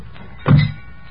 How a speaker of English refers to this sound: Okay, heave it in. Slam the doors.